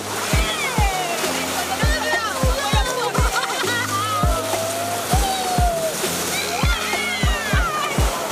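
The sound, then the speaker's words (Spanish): Ocean waves slosh and splash while several people talk and call out over the water, with repeated dull low thumps throughout, as people are helped to slide along on the waves. “La ola te va a empujar y te va a ir llevando despacito.”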